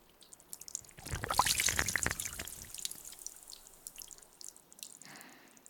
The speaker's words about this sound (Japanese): ちょっとだけ耳周りをお湯で流します。